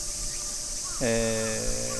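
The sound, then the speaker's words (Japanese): A steady, dense chorus of summer cicadas, including tsukutsuku-boshi, minminzemi and aburazemi, drones high and continuous throughout near midday on a hot summer walk somewhere in Tokyo, with a man's voice briefly sounding over it partway through. “都内某所ですけれども、セミしぐれ非常に聞こえてきますよね。つくつく帽子の声、ミンミンゼミの声、アブレミの声、夕方になったら日暮しゼミの声も聞こえてくるんでしょうか。”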